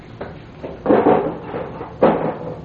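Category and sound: household object, drawer being pulled open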